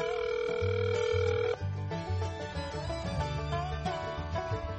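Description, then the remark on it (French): An outgoing phone call ringing on the line: a steady electronic tone gives way to a repeating melodic ringback pattern, fairly loud and continuous, with no one speaking. “Ben, on va essayer de voir si on peut l'avoir au téléphone, ça serait super.”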